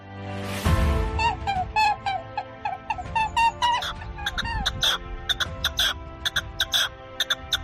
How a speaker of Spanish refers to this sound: Y como siempre nosotros aquí arrancamos, mira, van a escuchar ahora esos pajaritos que nos viene contando que hoy hablamos aquí en A Cuerpo de Rey de Caza.